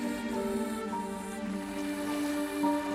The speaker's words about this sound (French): Des vagues, la Méditerranée, des grillons qui se régalent, nous sommes à Port-Cros.